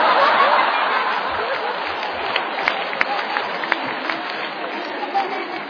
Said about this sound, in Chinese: 您还真厚道，还鼓掌是吗？